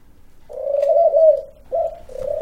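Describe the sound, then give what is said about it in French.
A female pigeon coos on its own: a long, low, smooth note rising slightly in the middle, then two shorter coos after a brief pause, with no voices present. “Là, il n'y en a qu'une qui recoule, c'est laquelle c'est la femelle.”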